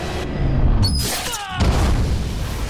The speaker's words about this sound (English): A mighty explosion rips through the tunnels, knocking Napoleon and Amber off their feet.